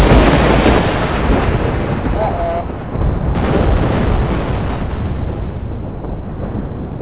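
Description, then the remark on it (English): A dense, continuous roar of battlefield explosions and rumbling blasts played as a sound cue, loud, with booms blending into a steady wall of noise for several seconds and no one speaking. “with a little thunder on the battlefield”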